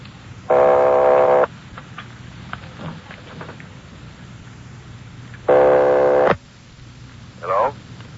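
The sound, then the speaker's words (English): A telephone line rings twice on a call placed from Los Angeles to a number in Napa, each buzzing ring lasting about a second with several seconds of hissy, crackling line noise between them, ending with a brief faint voice-like fragment. “Keep ringing, 761. They're ringing the number, Sergeant.”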